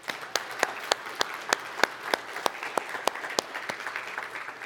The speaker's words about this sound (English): So one more thing I'd like to say is let's clap. Let's give a pre-clap now, and then I'll introduce everybody.